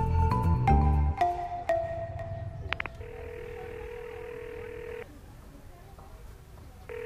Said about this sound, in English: Let's join Zita as she makes a phone call to Berry, a town clerk who has secretly provided her with valuable information.